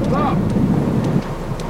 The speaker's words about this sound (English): the sound of the wind, like the bad news the man is delivering, is real and powerful.